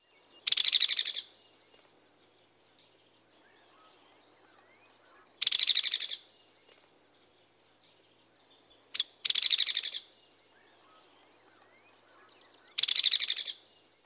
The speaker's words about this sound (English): The hairy woodpecker has a lower, relatively even-pitched rattle.